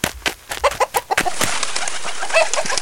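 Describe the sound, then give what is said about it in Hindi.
A hen clucks in a quick run of short, choppy calls, then the clucking gives way to a steady rustling, flurried noise, as a hen that got outside the coop by the water bowl is caught to be put back into the coop. “तुम अब क्या गिन रही हो? मुर्गी की पक पक।”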